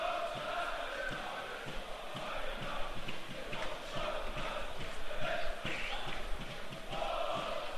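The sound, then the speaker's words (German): A crowd of football fans in Block R sings together in the stands at a WSV match with an estimated 3,000 spectators, a steady wash of massed voices carried over a regular, rhythmic beat of claps that runs throughout at an even loudness. “Und der Block R stimmt sich mittlerweile auch ein. Haben sich warm gesungen.”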